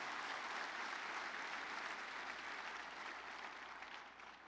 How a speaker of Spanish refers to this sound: Alabado sea el Señor. Vamos a dar un aplauso al Señor, Él es digno. Amén, amén.